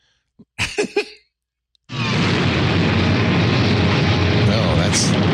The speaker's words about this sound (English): That's an explosion. So these are reel to reel tapes.